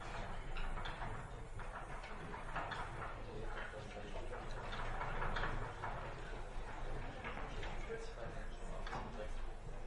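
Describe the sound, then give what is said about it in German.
Steady, scratchy swishing of a blackboard being wiped, continuing for the whole stretch with repeated brushing strokes, over a low room hum. “So, kein Bild mehr, ich wische erstmal ein bisschen.”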